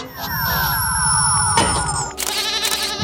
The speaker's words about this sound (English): Goat. Organic quadruped with horns. Definitely not a dog.